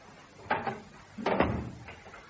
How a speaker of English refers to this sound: Let's close this bathroom door first.